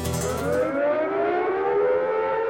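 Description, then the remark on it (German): A loud, sustained siren wails steadily at an Easter protest before the gate of the Cattenom nuclear power plant, its harmonic tones slowly rising in pitch over a couple of seconds, with no voices present. “Eine Sirene erklang und alle Teilnehmer fielen gleichzeitig um.”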